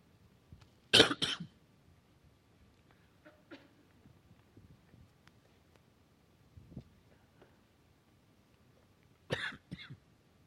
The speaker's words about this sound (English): I actually feel great. I just have a cough that I can't seem to get rid of.